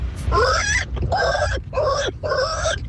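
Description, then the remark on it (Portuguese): A person's voice mimics a pig, letting out four rhythmic, nasal oinking grunts in close succession, loud. “Porco.”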